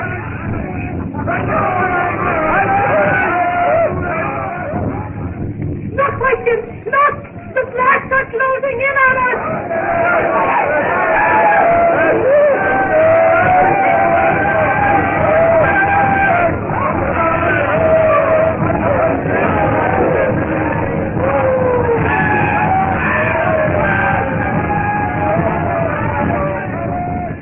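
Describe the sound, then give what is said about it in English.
A dense crowd of villagers shouting and yelling at once as a witch doctor shouts that the white devil god is in his hut, loud and continuous throughout, with agitated overlapping cries and a brief rhythmic burst partway through. “The witch doctor shouts that the white devil god is in his hut!”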